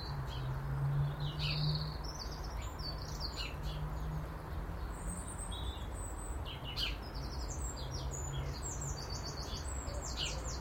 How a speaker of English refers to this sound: But birdsong is soothing. Maybe that's what I need to do. Maybe I need to go to bed with a wee recording at my bedside table with earplugs, earbuds, I mean. And if I can't get back to sleep, just plug in the birdies.